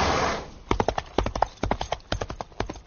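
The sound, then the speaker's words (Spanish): Horse hooves clip-clop in a steady, uneven rhythm of sharp hollow knocks, fairly loud, following a brief burst of hissing noise at the start. “No dejes que un caballo te convenza. Un caballo mola.”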